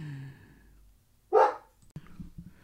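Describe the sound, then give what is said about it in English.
A dog lets out a single loud, sharp bark after a faint whiny tone, followed by a few soft knocks and rustles. “Took care of the dogs.”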